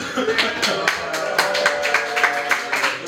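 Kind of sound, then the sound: crowd, small audience applause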